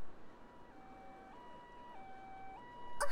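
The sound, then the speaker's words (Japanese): An ambulance siren alternates between two tones, steady and fairly faint over a low background rumble, growing slightly louder near the end as it approaches. No one speaks. “あ、ほら救急車の音。もうすぐそこだよ。”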